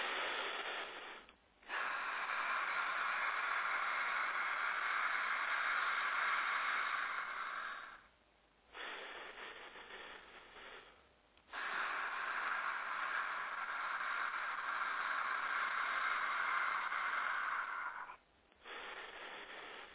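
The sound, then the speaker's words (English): Slow, deep 'ha' breathing exercise: long, steady rushes of breath, each lasting several seconds, separated by brief pauses. The airy, hissing breaths are fairly loud and no one speaks. “So the first thing is just a little bit of ha breathing, just to kind of get you balanced and centered.”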